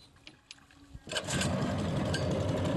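After a second of near-quiet with a few small clicks, a boat engine roars to life and keeps running steadily, loud, with a rough droning rumble, as the boat travels to a remote village a few miles from the sea.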